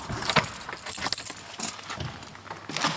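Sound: keys jangling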